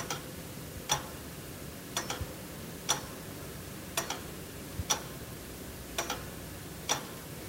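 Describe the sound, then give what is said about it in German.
A regulator wall clock with two pendulums, in an entrance, ticks slowly and steadily, about one crisp tick per second, some ticks faintly doubled, heard alone over a quiet low hum. “Im Eingang nimmt einem eine Wanduhr gefangen, ein Regulator mit 2 Pendeln, wo mit einer unendlichen Ruhe Sekunde für Sekunde verstreichen lässt.”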